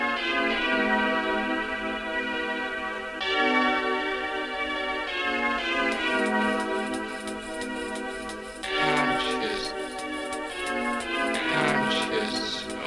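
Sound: bell ringing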